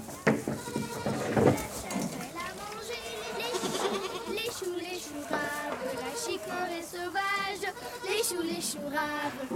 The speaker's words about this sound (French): Donc l'année des M, par exemple moule frites, mer du Nord, qui donc deux biquettes qui sont d'ailleurs très copines.